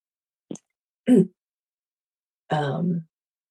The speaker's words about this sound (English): Excuse me one second. I need to clear my throat again.